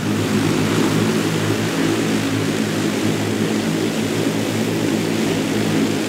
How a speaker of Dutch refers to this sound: Klinkt niet heel lekker, hè? Nee, dat wil je niet in je nee. Dit is wel echt mijn stokpaardje. Als het altijd over drones gaat, gaat het over dat geluid.